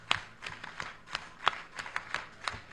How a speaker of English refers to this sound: The rhythm, you know, you don't clap full-handed like that. It's like kind of up like that, and the rhythm is one, two, one, two, three, one, two, try it, one, two, one, two, three.